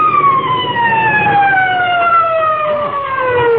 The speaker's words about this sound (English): Must be an awful big fire someplace, though, even if we couldn't find it. Hey, you know what? I can still hear them sirens. Listen.